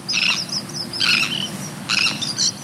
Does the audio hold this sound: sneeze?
no